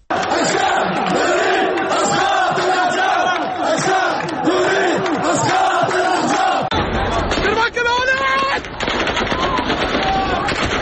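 A large crowd of protesters in Tahrir Square, Baghdad, Iraq, chants slogans in loud, rhythmic unison, then the chanting breaks off into shouting and scattered sharp gunshots from security forces over the din.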